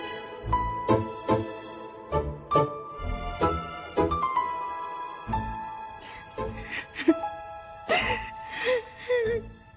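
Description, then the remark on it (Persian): A woman sobs and whimpers in broken, shaky bursts, with catching breaths and rising wails, fairly loud, continuing for several seconds. “گریه نکن”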